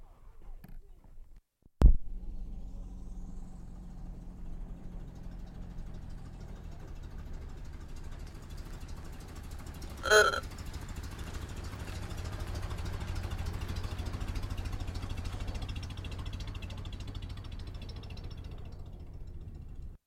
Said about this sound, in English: This will be the blue convertible idling.